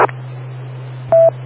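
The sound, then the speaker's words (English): A Motorola radio ID chirp: a brief, clipped electronic beep at a steady mid pitch, sounding once over a constant low hum, with a short burst of tone at the very start. “Well, I'm used to hearing the Motorola ID chirp. Is that what he had on there? Was the ID chirp digital?”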